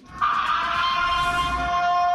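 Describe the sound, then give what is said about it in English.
An old military siren, used by police to enforce a curfew and the same siren sound as in the movie Purge, blares in a loud, steady wail rich in harmonics, its pitch sliding slowly downward as it holds for about two seconds with no voices. “there is an old military siren that was used.”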